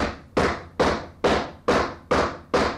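Six heavy knocks thump in a steady, evenly spaced rhythm, each one loud and booming with a short ringing decay, from a 1971 haunting case in which the knocking began when two sisters, aged 11 and 13, lay side by side in bed. No voices are heard.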